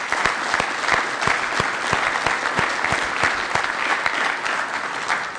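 An audience claps steadily for the 26 people who have attended for five years, dense overlapping hand claps forming a continuous, fairly loud wash of applause that holds even throughout, with no voices standing out.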